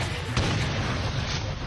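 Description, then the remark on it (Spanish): A single loud cannon blast with a sharp crack followed by a heavy, rolling low rumble that lingers for over a second, booming, with no voices. “Ahora me metieron el cañonazo al burrito sabanero.”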